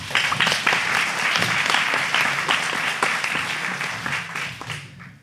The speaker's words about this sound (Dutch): Applaus!